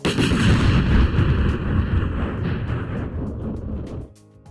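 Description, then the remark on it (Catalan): A loud, rumbling crash of a school building collapsing from top to bottom at night, with heavy debris tumbling and roaring for about four seconds before cutting off abruptly into quiet. “Tot el poble es va despertar espantats i van sortir de casa seva amb les llanternes i van veure que l'escola havia caigut de dalt a baix.”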